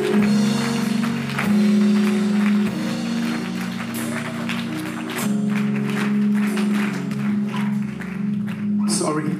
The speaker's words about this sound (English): Somebody put your hands together and give Jesus a clap. Give him a clap of praise. Hallelujah.